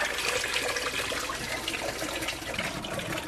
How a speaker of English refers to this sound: Then transferred it all into a giant glass container called a carboy that Hugh had lent me.